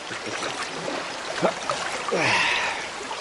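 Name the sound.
water splashing and trickling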